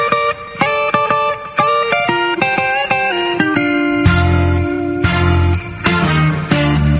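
Upbeat Christmas rock song intro opening with bright, ringing bell-like notes in a steady pattern, then a full band with heavy bass joins in about halfway, loud, no voices.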